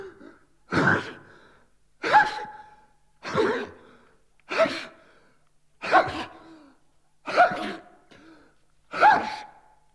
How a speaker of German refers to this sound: So was Idiotisches wie das Niesen.